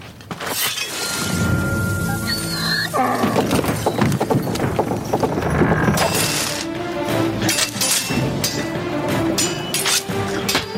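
A donkey's hooves clip-clop in a quick, uneven rhythm amid a busy clatter of breaking and clinking noises, loud, with a brief animal cry early on and no talking.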